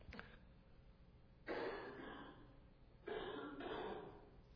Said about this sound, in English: I've been coughing so much the last few days. That's the first time I've had to do it in front of everybody.